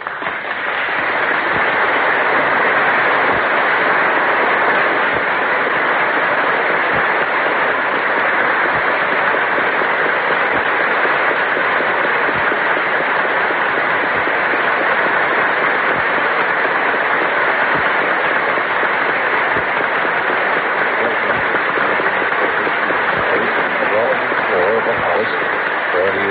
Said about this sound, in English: Members of his cabinet, everyone is standing. The applause is tremendous as he comes in.